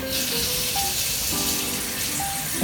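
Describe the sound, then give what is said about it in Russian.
Steady running cold water pours from a tap into a glass holding about 200 grams of rice, a continuous hissing splash with faint swishing as the rice is rinsed under the stream, with no talking. “Мы его промываем в холодной воде.”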